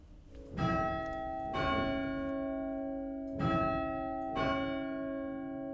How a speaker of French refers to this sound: Le Beffroi, c'est aussi ce qui donne l'heure. Le Beffroi et le carillon, c'est ce qui rythmait la journée de travail et de repos des habitants.